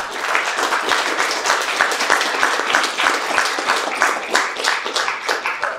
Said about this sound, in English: So I don't know if we can just do a round of applause for all of them.